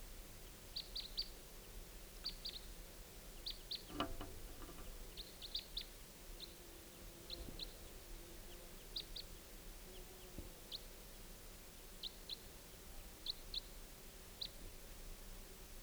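Short, high-pitched chirps from two birds arriving around 5:30 p.m. repeat in pairs and small clusters every second or so across quiet outdoor ambience, with one brief louder thump partway through; no one speaks.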